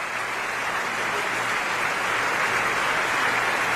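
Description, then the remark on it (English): Sustained, dense applause from a large audience after an opera performance, a steady wash of many hands clapping at once with no breaks, fairly loud and even throughout, as the performers bow together and the conductor applauds the chorus. “And the maestro applauding for the chorus.”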